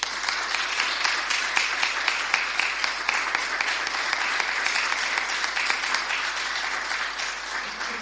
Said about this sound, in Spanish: Pido un aplauso grande para él.